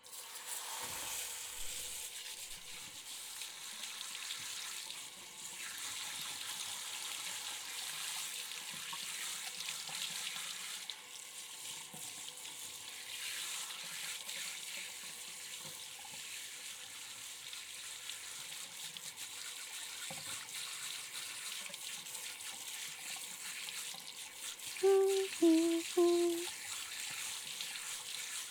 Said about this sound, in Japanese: では、シャワーでシャンプーを洗い流しますね。